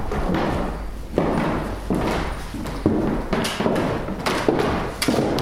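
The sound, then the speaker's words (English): Drawers of John Marshall's faded wooden desk slide and knock shut repeatedly, with a series of hollow thuds and scraping rattles roughly once a second. “You are actually pulling the drawers out on the actual desk that John Marshall would have used in his front room.”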